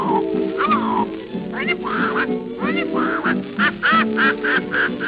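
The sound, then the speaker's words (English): A person imitates a parrot, squawking in a raspy, nasal voice, a steady run of short, rising-and-falling chirpy calls for several seconds, fairly loud. “Then the parrot says”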